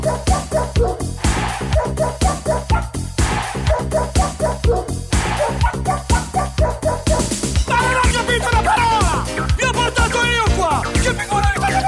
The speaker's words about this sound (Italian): Il cane, the dog.